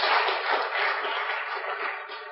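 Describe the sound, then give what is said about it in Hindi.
A crowd applauds loudly, a dense, steady wash of many hands clapping at once for a couple of seconds, with no voices standing out over it. “जोरदार ताली बजाओ।”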